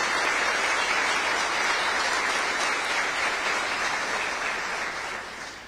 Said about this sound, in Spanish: Un acto cívico enorme que hoy nuestro gobernador Osvaldo Jaldo ha llevado adelante. Merece un aplauso. Sí, merece un aplauso. Merece un aplauso, querido Osvaldo.